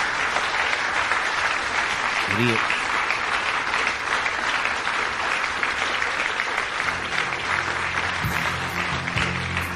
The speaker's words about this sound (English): Don't clap by the microphone, Donald. Come on, man.